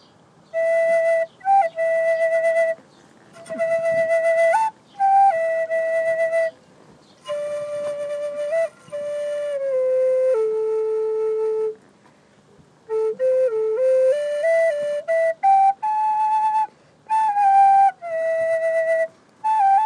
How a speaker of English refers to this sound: Alright, that was a high spirit flute, and one of the easiest, really easy and fun to play.